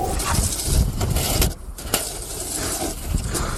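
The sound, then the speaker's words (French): Snow shovels scrape steadily across sidewalks in Moscow, clearing snow to prevent falls, in a harsh, gritty rasp that drops out briefly midway before the rough scraping resumes at an even, fairly loud level. No one speaks. “Bah oui, le crissement des pelles sur les trottoirs pour déneiger et éviter les chutes.”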